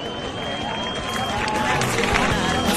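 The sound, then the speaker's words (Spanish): Dense, steady applause from an audience, a continuous wash of many hands clapping that swells slightly toward the end, with some crowd murmur mixed in, greeting a message to the fans of Oviedo and Sporting. “Bueno, pues un mensaje para las aficiones del Oviedo y del Sporting, que hemos escuchado, ha sido recibido con aplausos.”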